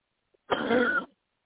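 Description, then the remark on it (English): One forceful, deep cough from the gut, taken after a deep breath during a deliverance prayer: a single rough burst lasting about half a second, with silence before and after. “In Jesus' name, take a deep breath and cough from your gut.”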